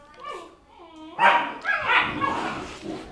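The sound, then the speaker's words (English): Two puppies whine in high, wavering yips, then break into a run of four or five sharp barks that rise in loudness and overlap one another. “I was fighting with the two puppies that we had to get.”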